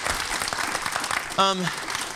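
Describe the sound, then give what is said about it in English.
A church audience claps steadily, a dense wash of applause throughout, with one voice briefly calling out over it partway through. “Would you give them a round of applause, please?”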